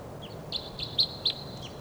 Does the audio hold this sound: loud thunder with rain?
no